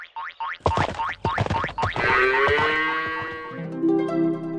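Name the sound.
cow mooing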